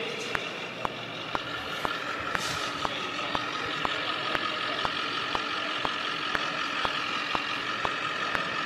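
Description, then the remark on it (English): A very loud tractor engine drones steadily, its heavy rumble overlaid with a fast, regular mechanical ticking that repeats evenly throughout. No one speaks. “That's a tractor. A very loud tractor.”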